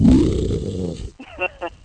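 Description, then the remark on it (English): A loud, gritty growl from a voice run through a voice-changing toy lasts about a second, followed by a few short, high-pitched warbly vocal bursts. “It's got a good growl, too.”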